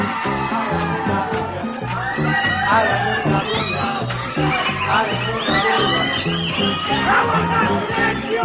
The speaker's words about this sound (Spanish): aplaudiendo todos, aplaudiendo todos, aplaudiendo todos, aplaudiendo todos. Hagan una bulla.